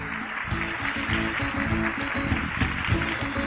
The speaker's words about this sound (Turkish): Onları kocaman bir alkışlayalım bakalım, hadi bakalım.